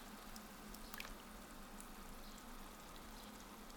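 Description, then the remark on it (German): Canned tomatoes are slowly poured from the can into a hot pan, thick, wet contents sliding and plopping with soft squishing and dripping over a steady, quiet sizzle; no one speaks. “Ich schütte die Tomaten langsam aus der Dose in die Pfanne.”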